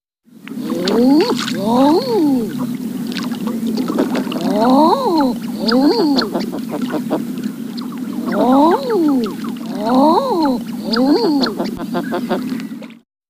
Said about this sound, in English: Common Eider.